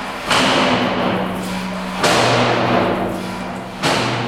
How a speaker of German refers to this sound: Zuerst zieht der Philipp Spindler die Schieberklappe auf und zu, damit die Löwen hören, dass sie reinkommen sollen.